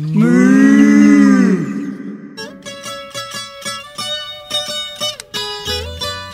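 A single loud, drawn-out cow moo, then a short, bright musical jingle with plucked and chiming notes, from the Rádio Ciência programme Papo de Vaca.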